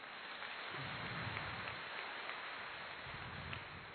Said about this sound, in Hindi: तो दीदी जी के लिए एक बार मैं चाहूंगा कि शानदार ताली।